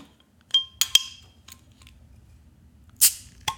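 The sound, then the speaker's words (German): A Steamworks beer bottle with a crown cap is opened: a few sharp metallic clinks with a brief ringing tone, then a short, bright hissing pop and a final click, over a low murmur. “Und jetzt mache ich, so, jetzt kommt das Geröff.”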